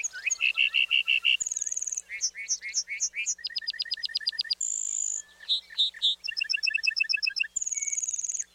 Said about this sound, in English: Then he begins a slow descent, flashing those white feathers with each flap of his wings. Flying back to earth, the bunting belts out a complex series of trills, whistles, and buzzy phrases.